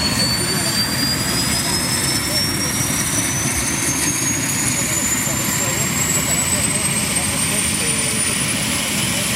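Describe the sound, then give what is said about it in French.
A twin-turbine rescue helicopter engine in the Bernese Oberland runs loud and steady, a dense roar of turbine noise with a thin high-pitched whine that climbs gradually throughout, as if spooling up, during a winching exercise presented to the press. “L'appareil biturbine est en fonction depuis le 12 octobre dernier et a été présenté hier à la presse avec un exercice de treuillage.”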